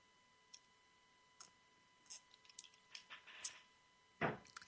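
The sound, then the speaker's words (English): Someone gulps a drink of ice-cold grapefruit juice: a few small, scattered wet clicks and ticks, then one louder, fuller swallowing gulp near the end. No one speaks. “Well, it wasn't a sip. It was a gulp, but it sure felt good.”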